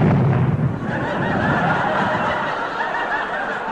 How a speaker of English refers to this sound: Yes, yeah, Sid's having trouble with his car again. He's blown a gasket. Oh, yes, well, he didn't put any water in the radiator, I'll bet.